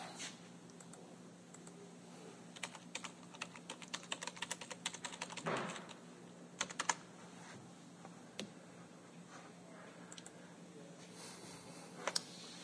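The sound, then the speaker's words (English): An IBM Selectric 3 electric typewriter, cast aluminum and weighing about 75 pounds, clatters away in irregular bursts of sharp keystrokes, with a steady low motor hum running underneath and brief pauses between flurries of typing. “That's the IBM Selectric 3, cast aluminum, weighed about 75 pounds.”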